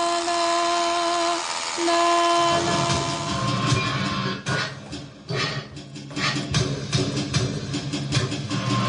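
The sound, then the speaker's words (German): A train rattles past, its horn sounding steady tones at first before the loud rumbling and clattering of the wagons takes over, with rhythmic clacks on the rails. “Aber auch laute Baustellen oder ratternde Züge liebt die Künstlerin Ascha Waluschko.”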